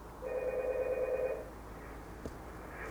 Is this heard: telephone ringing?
yes